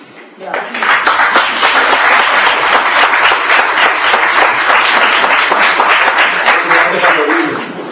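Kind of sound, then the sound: crowd, audience applause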